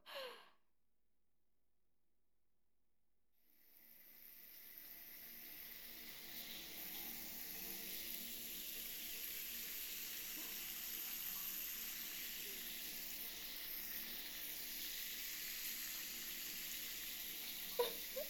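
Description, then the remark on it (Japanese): A short breathy exhale, a moment of silence, then shower water starts and pours in a steady, even hiss for about fifteen seconds as soap is rinsed off, with a small knock near the end. “じゃあシャワーで泡全部流しちゃうね。”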